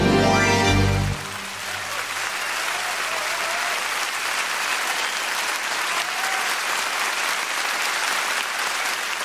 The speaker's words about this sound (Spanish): Me suman los aplausos, por supuesto,